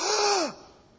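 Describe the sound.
A single voice imitates a crowd's sharp gasp: one breathy intake about half a second long, with a faint voiced tone sliding downward before it cuts off into quiet.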